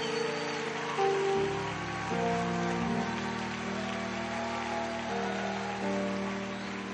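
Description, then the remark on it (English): A church conference audience claps steadily to welcome Apostle Trevor Herbert, regional leader of the Apostolic Faith Mission, to come up: a dense crackling wash of hands over sustained, shifting keyboard chords that carry on throughout without a break. “Come on, clap your hands.”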